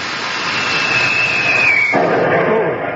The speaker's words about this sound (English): Uh-oh, they're shooting at us. Give me more oxygen. But, gee, maybe they're only over that hill there.